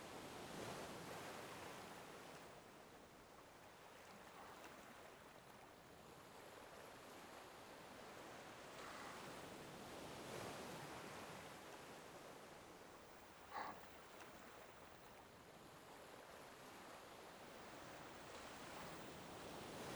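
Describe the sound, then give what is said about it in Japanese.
Ocean surf washes steadily onto the shore, broad hissing swells rising and falling every few seconds, with one faint click partway through and no voices. “それにしても、あんたも全然飽きないわよね、海を見ることに。”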